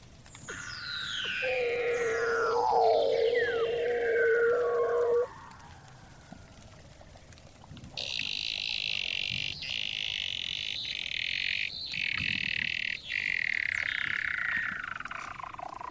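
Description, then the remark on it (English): A male Weddell seal sings underwater below the frozen surface of the Ross Sea, Antarctica, hanging head down in the darkness: long descending whistles sweep down into a steady low tone, then a high buzzing trill with rapid pulsing runs for several seconds, loud and without any talk. “This is the voice of a Weddell seal, which I recorded below the frozen surface of the Ross Sea in Antarctica.”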